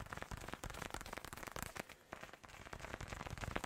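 Steady rain patters densely onto a surface, a continuous crackling wash of small drops with no pauses. It sounds fairly quiet, with no voices.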